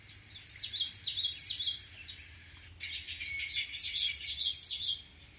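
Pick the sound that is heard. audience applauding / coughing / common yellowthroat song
common yellowthroat song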